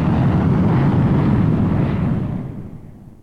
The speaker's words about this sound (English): Outside, the plane thrusts across the starry sky.